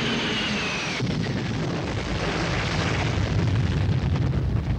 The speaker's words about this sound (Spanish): En un bombardeo con napalm simulado, quemaremos 6.000 litros de gasolina en apenas unos segundos. ¡Mira, mira, mira, mira, mira!